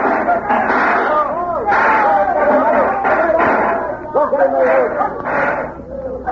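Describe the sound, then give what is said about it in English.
A pack of wolves, turned loose by Whitey, barks and yelps in a loud, continuous frenzy, many high, overlapping cries rising and falling without pause for several seconds. “Turn your wolves loose, Whitey.”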